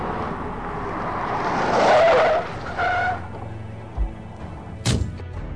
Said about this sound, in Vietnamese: Bỗng nhiên phía trước xe chạy ra một chú chó hoang. Tài xế vừa quẹo bánh lái, không kịp phanh lại, liền đụng vào lan can ven đường.